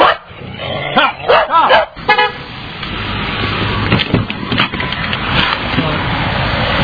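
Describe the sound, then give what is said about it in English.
Several dogs bark in a quick cluster of sharp, loud barks near the start, then a busy outdoor scene follows with traffic noise, a car horn and voices; numerous dogs, including basset hounds, small beagles and poodles, are running around the area. “There's numerous dogs running around here.”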